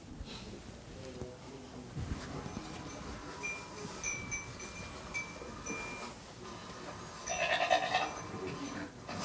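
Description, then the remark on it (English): Sheep bleat several times over a rough, noisy outdoor background as a bellwether gathers the stray sheep, with a louder burst of bleating near the end amid shuffling and rustling. “So I have a brief video here to show you a bellwether in action.”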